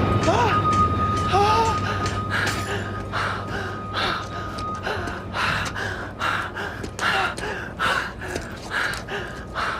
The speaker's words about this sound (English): He leaves the stage, runs outside gasping for air. Lou follows him out. And what we hear now is the scene from Ruben's point of view.